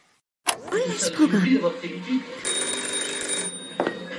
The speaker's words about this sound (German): und zwar, wenn das Telefon klingelt. Das Telefon klingelt zu Hause bei Klots Frau, ich habe gerade den Namen vergessen, und sie sagt dann, sie ruft zum Telefon, ja, ich komme.